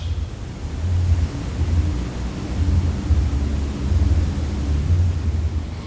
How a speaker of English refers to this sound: So it's lovely sitting in the rain. Sometimes we can hear the traffic going by as the flow of water. I don't recall sitting here in this zendo with a big rainstorm going on out there in the street. Maybe I just wasn't paying attention.